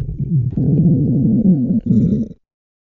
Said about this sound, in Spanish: Imagínense la situación: una reunión importante de trabajo, distendida, donde varias personas charlan animadamente unas con otras, y en un momento dado, justo cuando las voces callan a la vez, su estómago emite un ruido sordo como un trueno lejano.